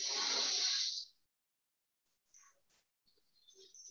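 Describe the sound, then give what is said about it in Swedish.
During a breathing exercise, a single airy inhale through the left nostril, the right nostril closed with the right thumb, lasts about a second, a loud hissing rush that cuts off sharply, followed by near silence with a few faint soft rustles. “Andas in genom vänster.”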